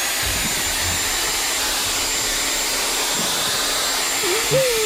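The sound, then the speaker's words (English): An electric power drill, held in the hand, runs continuously at a steady, loud pitch, its harsh, hissy whir unbroken for the whole stretch; near the end a faint vocal sound rises, a small child crying. “I've got the drill in my hand here, and I'm just going to set it off.”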